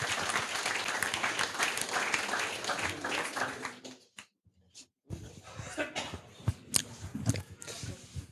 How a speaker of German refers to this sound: Ein herzlichen Applaus.